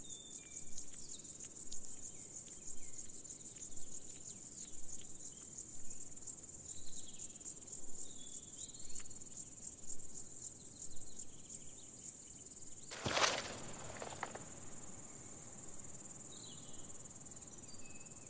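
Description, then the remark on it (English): A marsh grasshopper stridulates, making its song by rhythmically snapping its hind legs: a steady, high insect buzz with faint rapid ticks, then a few sharp, louder clicks partway through. No one speaks. “The carnivorous sundew poses no threat to this powerful grasshopper. On the contrary, it is more likely to devour the sundew, although the marsh grasshopper mainly feeds on grasses.”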